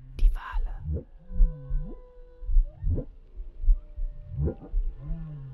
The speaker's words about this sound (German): Kannst du dir vorstellen, alles, was klingt, zu hören? Die Wale.